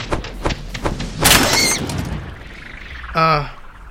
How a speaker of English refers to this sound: A moving slide crashed against you.